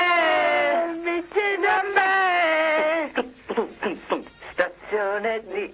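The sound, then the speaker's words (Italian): A loud barbarian war cry: a long sustained yell for a few seconds, then a run of short, choppy shouted bursts with a strained, raspy edge. “Un grido barbario.”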